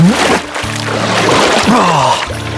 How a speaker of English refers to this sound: Throwing himself forward, he plunged his head into the pool.